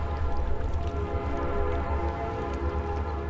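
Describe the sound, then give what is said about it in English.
A train whistle sounds in one long, steady blast over the low rumble of a passing train on a busy rail line in Clinton, on the upper Mississippi; loud, with no one talking. “Its solid red brick buildings and graceful houses tell of an affluent past, as do the busy rail lines whose whistles sound in the Arche homes many times daily.”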